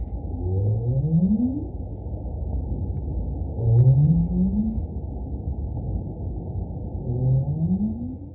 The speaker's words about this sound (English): So who is that big one and why is it making that noise? That is a North Atlantic right whale. Okay. And that's a really iconic sound for Cape Cod Bay and for Massachusetts Bay because that's the sound that both males and females use as a contact call